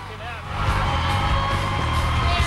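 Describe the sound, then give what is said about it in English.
A massive crowd gathered outside a hospital cheers on John, who looks out from the ER's main doorway, in a dense, continuous roar of many overlapping voices, rising after a brief softer start and holding steady and loud, with a low rumble underneath. “They're all cheering on John, who's looking out from the ER's main doorway.”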